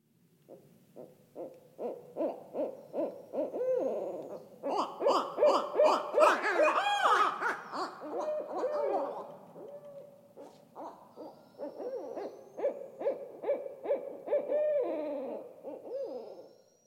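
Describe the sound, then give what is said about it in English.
Two barred owls caterwaul back and forth on a dark, moonless night in a bayou in Arkansas, a loud, raucous duet of rhythmic hoots and wild cackling calls that build to a frenzied peak midway, then settle into steady repeated hooting. “it's a pair of barred owls”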